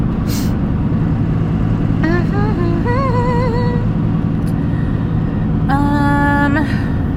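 A steady, loud engine rumble fills a truck cab from start to finish, with a couple of brief high, whining tones rising over the drone partway through.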